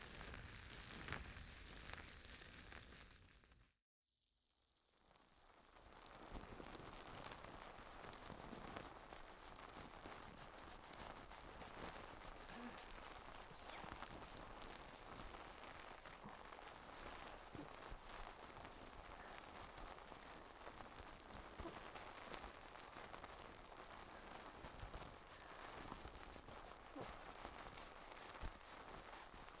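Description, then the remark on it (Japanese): Watermelon foam bubbles being massaged make a dense, steady crackling fizz, like tiny popping and rain-like sizzle, broken by one brief silence early on before continuing unbroken. No voices. “スイカの泡でマッサージしていきますよ。”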